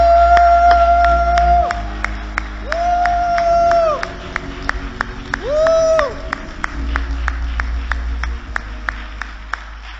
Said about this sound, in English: If at any point you served in the military, we just want to honor you. Just stand for a moment so we can give you a thunderous applause.